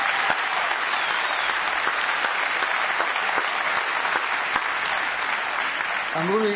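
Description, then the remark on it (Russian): Sustained applause from a sizable audience, a dense, steady wash of clapping lasting several seconds at an even level, with a voice starting to speak just as it ends. “Аплодисменты Семену Винокуру.”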